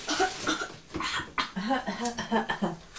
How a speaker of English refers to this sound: Sounds like a poorly cough to us. That's a poorly cough, isn't it?